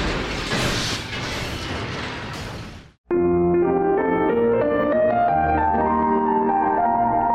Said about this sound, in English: The monorail plummets downward, smashing through a boarding platform.